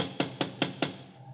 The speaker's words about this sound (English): They don't seem to answer, do they? Try knocking again.